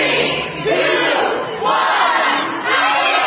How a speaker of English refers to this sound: That's the sound of eager shoppers as they were counting down the opening of the doors to Macy's, which opened on Thanksgiving afternoon.